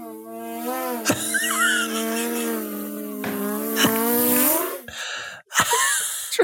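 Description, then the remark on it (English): A person hums a steady, nasal buzzing drone imitating an engine, holding a sustained pitch with slight wavers, broken by a few sharp clicks and a brief gap before the buzz resumes. “Do a drone, remember the drone?”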